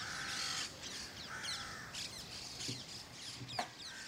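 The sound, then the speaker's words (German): Several crows caw repeatedly in Rome, harsh calls overlapping, with other birds chattering in the background and no voices present. “Zusammen mit den Krähen.”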